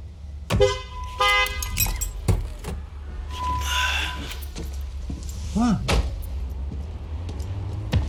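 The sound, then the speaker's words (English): A car horn gives a short, bright honk near the start over a steady low engine rumble, in a scene from Curb Your Enthusiasm where a driver honks after a traffic light turned green, followed by scattered clunks and faint voices. “I don't appreciate that beep, sir. Oh, well, you know, the light had turned green and I gave you time.”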